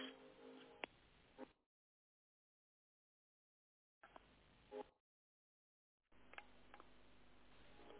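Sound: phone keypad tones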